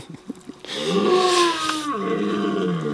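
A wild red deer stag bellows: after a moment of faint background, one long, loud, guttural roar rises and holds for over two seconds, rough and groaning, alone.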